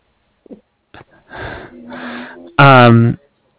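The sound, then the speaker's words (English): Two English bulldogs snoring: a few short snuffles, then two longer raspy, rattling breaths, ending in a loud, harsh honking snort that rises well above the rest. “I have two snoring dogs.”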